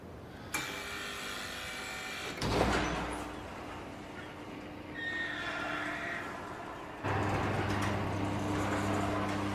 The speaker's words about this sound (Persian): در حال درخواست مجوز برای باز کردن در دوم. درخواست برای شماره 641 برای در دوم تایید شد. دریافت شد. در حال باز کردن در دوم.